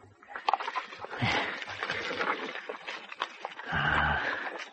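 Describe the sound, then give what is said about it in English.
A horse being fed sugar snorts and snuffles, with breathy huffs and a low rumbling nicker toward the end; no one speaks. “There's no doubt about you. Another sugar horse.”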